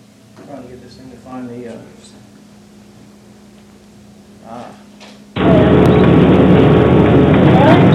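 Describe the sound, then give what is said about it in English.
A low, steady hum of a bus approaching an intersection at about 30 miles an hour runs beneath faint voices, then a loud, dense rumble of engine and road noise abruptly takes over and continues to the end as a white pickup crosses from the right and the driver brakes hard. “This first video that I'm going to show, it's a bus driver approaching an intersection, and his speed is about 30 miles an hour, and there's going to be a white pickup come through the intersection to the driver's right.”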